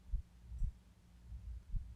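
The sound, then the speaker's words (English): A muffled human heartbeat heard with an ear pressed to the center of a person's chest: soft, low thumps in a steady rhythm over a faint, dull hum, with no voices. “Can you make out my heartbeat?”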